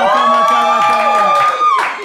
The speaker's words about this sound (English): We are so excited to be on the way to Passion 2015 in Atlanta and Houston, and the cheering that you can hear in the background.